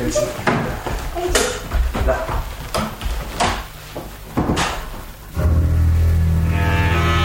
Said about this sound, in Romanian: Urmată de domn Lisardo, iese pe ușa cea mică. Dar aproape în aceeași clipă, cealaltă ușă se deschide și în cameră pătrunde un bărbat învăluit în mantie.